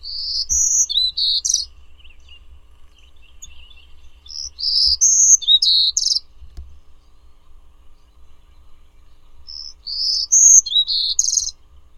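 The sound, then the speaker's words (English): A songbird, recorded for the National Audubon Society Birdsong Collection, sings three bright, high-pitched phrases of quick warbling notes, each about a second and a half long, separated by pauses, over a faint low background rumble. “Birdsong was provided by National Audubon Society Birdsong Collection, Lang Elliott Music of Nature.”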